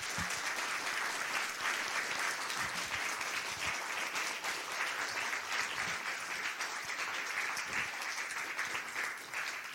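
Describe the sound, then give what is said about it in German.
Sustained audience applause at the end of a 42-minute presentation, a dense steady wash of many hands clapping for the full length, loud and even with no voices breaking through. “Ja, das ist jetzt so halb im Applaus untergegangen.”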